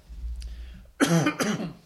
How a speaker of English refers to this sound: Either that or coughing.